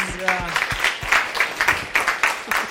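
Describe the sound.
An audience applauds with a steady patter of many hands clapping, moderately loud and sustained, while a brief voice murmurs underneath at the start.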